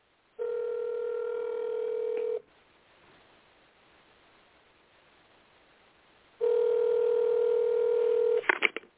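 A telephone call goes out during the Fivefold Ministry radio broadcast to reach the show's host: two long, steady, buzzing ring tones about four seconds apart, with quiet line hiss between them, ending in a few sharp clicks as the line picks up.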